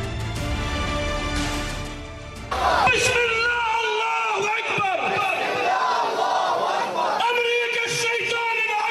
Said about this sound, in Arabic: على وقع هتاف أمريكا الشيطان الأكبر، شهدت مخيمات الشمال مسيرات حاشدة دعما لغزة ورفضا للمجازر والإبادة التي ترتكبها قوات العدو في غزة والاعتداءات المستمرة على جنوب لبنان.